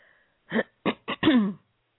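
Loud throat clearing in several quick bursts, ending in a longer, rougher rasp, with no talking.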